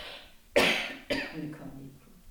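Two coughs, the first harsh and forceful, the second a shorter follow-up, with no talking.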